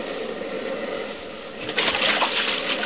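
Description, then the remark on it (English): Continuous rushing, churning water from a boat moving through shallows toward an island beach, with a louder hissing surge about two-thirds through as it grinds onto the beach. Fairly loud, with no voices. “Hold on, we're going to hit the beach.”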